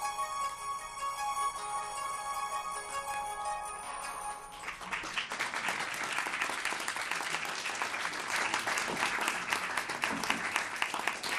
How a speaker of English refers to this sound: No clapping, please, and during the hearing.